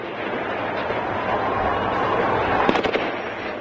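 Gunfire crackles in a quick burst of several sharp shots near the end, near Tahrir Square in Egypt at night, cutting through a steady, dense wash of outdoor crowd noise that fills the whole scene.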